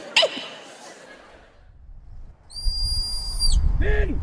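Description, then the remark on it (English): A shrill, steady whistle blast held for about a second, followed by a short swooping whistle, both clear over a low outdoor rumble: whistle commands demonstrated by a retired guard in County Wexford. “he demonstrates to me some of the whistle commands.”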